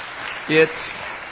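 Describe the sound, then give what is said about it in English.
A church audience applauds a pastor returning from a four-month sabbatical, a steady wash of many overlapping claps, with a short voice rising briefly over the clapping midway through. “Are you clapping because I'm back or because it was good that I was away for...”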